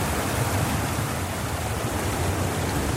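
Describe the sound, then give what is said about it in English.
Steady, close-up rush of bubbling water near the surface, a dense hissing wash with low gurgling texture underneath, continuous and fairly loud with no voices. “oh yeah, that's getting us some nice foreground here with the camera pretty close to the water, actually to some area of the water where there's bubbles coming out, so that might add some nice texture as well.”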